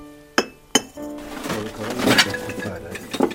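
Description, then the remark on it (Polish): A glass kerosene lamp chimney clinks twice in an attic, sharp ringing taps, followed by a few seconds of softer glassy rattling and knocking as it is handled. “Proszę bardzo, do lampy naftowej szkło.”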